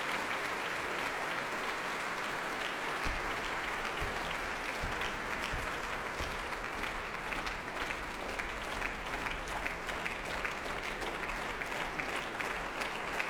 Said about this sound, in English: It's amazing, though, how people feel the need to applaud within nanoseconds of the last bar of that music. Almost hadn't faded away.